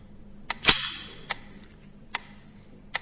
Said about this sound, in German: Jetzt nehmen Sie die Pistole in die linke Hand und ziehen mit der rechten das Verschlussstück bis zum Anschlag zurück und lassen es wieder los.